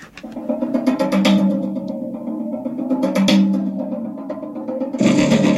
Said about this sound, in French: Donc, le contrebasson. Et on le mélange avec un son de gong.